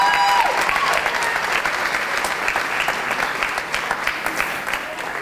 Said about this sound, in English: Round of applause.